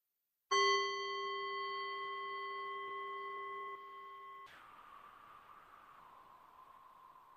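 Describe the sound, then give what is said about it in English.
A single meditation bell is struck once, ringing out clearly with bright, sustained tones that slowly decay over several seconds before giving way to a soft room hiss. “The sound of this bell.”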